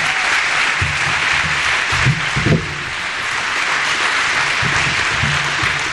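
Steady audience applause, a dense wash of many hands clapping at a constant loudness for the whole stretch, with no voices standing out above it.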